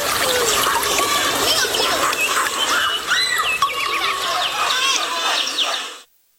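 Steady flowing, trickling water with busy birdsong chirping over it, fairly loud, running continuously for about six seconds before cutting off abruptly.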